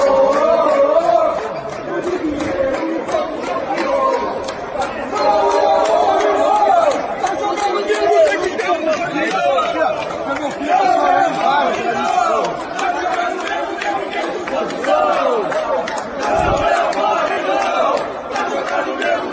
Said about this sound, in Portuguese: aconteceu no hotel, quando o Flamengo chegou no hotel lá em Guayaquil, no Equador. Na chegada dos jogadores, um dos mais assediados foi o Diego Alves. Torcedor acha que o Diego Alves falhou nos dois gols. Cara, foi uma pressão da torcida, escuta aí.